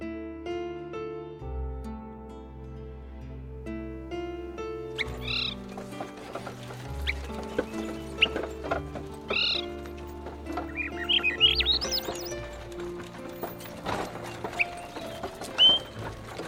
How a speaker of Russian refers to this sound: Красив июньский лес. Березы радуются летнему наряду, птицы щебечут одна звонче другой.